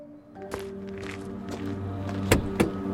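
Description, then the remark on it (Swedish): A Saab 9-3 car idles with a steady low engine hum while several sharp thunks and clicks, like doors or windows being worked, punctuate it. “Den här bilen älskar ju väldigt mycket, och det är en Saab 9-3.”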